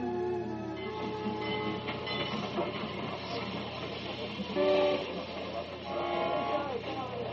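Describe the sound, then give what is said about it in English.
A commuter train rolls into a little suburban station in Bellwood, its steady rumble and metallic squeal filling the scene, with a brief higher brake whine near the end and faint voices in the background. “As the commuter train pulls in at the little station in Bellwood.”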